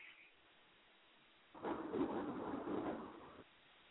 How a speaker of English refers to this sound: Did the rain and the storm put us out here online, on the air? Because I don't hear anybody. I just hear hail, rain, thunder, lightning.